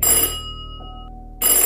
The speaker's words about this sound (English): For the rest of the night, the frightened girl cowered in the corner of the hallway, helplessly listening to the ringing of the doorbell. And it seemed to go on for hours.